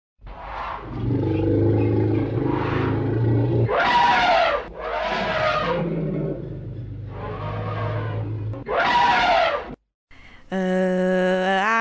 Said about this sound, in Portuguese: Eu sei, é o elefante.